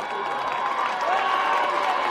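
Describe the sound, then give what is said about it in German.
A crowd cheers at the finish line of the Vienna City Marathon, a steady wash of shouts, whoops and clapping at an even loud level throughout, with some rising voices standing out briefly. “Ihr hört es ja jetzt gerade, wir sind eigentlich schon beim Vienna City Marathon.”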